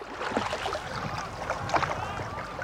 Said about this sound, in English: That afternoon, we went out on a canoe with a couple of rowers and recorded stereo samples of the different type of effects that would be somewhat typical of an event.